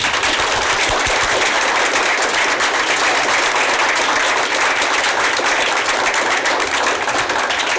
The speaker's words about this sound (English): I think they certainly deserve a round of applause.